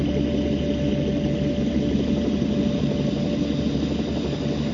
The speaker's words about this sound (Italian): Riaccendo le turbine e seguito ad accelerare mentre mi avvicino alla valle.